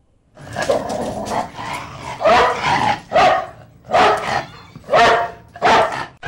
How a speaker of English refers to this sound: we'll find out why my dogs are barking like all hell's breaking loose outside this door.